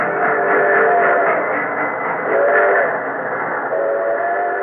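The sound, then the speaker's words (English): A heavily laden freight train carrying relocated Soviet industry eastward toward the Urals rumbles steadily along the rails, loud, with long sustained whistle tones rising over the continuous roar of the moving cars. “Over the railroads that had been so laboriously laid eastward to the Urals and beyond to the great spaces of Soviet Asia, the trains moved, heavily laden with the transplanted industry.”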